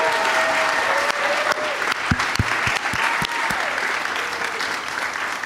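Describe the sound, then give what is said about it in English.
A live crowd applauds guests Dan Schechter, Joe DeRosa and Sam Levine, a dense wash of clapping that holds at a constant level throughout, with a few sharper claps and faint whoops standing out from the mass. “One more time for all of my guests, Dan Schechter, Joe DeRosa, and Sam Levine.”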